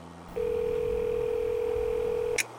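A steady, clear telephone tone hums over a low background rumble for about two seconds, then cuts off with a brief electronic chirp as a speakerphone, after its voice key is pressed and a name is spoken, dials a call on speaker.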